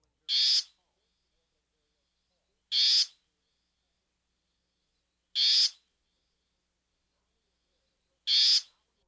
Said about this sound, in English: Another good handle on the warbling vireo vocalization comes at the end of most phrases. Listen here for a distinct upward pitch. Here's the warbling vireo's call.